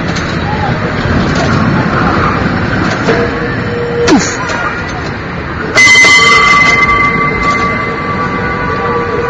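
A San Francisco cable car near Bush Street clangs its bell sharply a few times, then rings out with sustained metallic tones over steady rumbling street traffic and city noise; it rings because cars to the right didn't leave room for the cable car.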